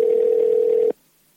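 phone call dial tone

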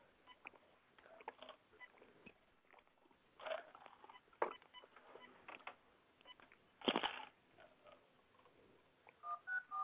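telephone keypad dialing tones

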